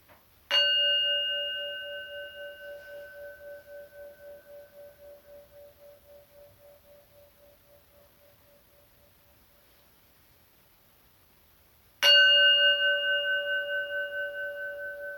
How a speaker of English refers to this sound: And we'll start with three sounds of the bell and an introduction.